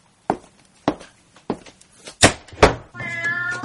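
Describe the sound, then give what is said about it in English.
A few sharp footsteps or knocks land one after another, then a black cat that has just run across a doorstep lets out a drawn-out, fairly loud meow that runs to the end. “A black cat just ran across the doorstep in front of us.”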